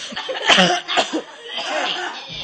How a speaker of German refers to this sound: Okay. Ruhe bitte. Okay, alle nochmal husten.